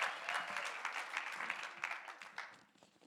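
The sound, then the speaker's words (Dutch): A church audience claps steadily to welcome a speaker, a dense patter of many hands that stays fairly even before gradually thinning and fading out near the end. “Laten we hem een hartelijk applaus geven.”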